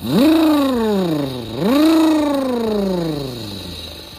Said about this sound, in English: As they kept driving, they came up to a bunch of giant mud pits. Good thing Caveman Dave's monster truck had ginormous tires, because he could tear through the mud.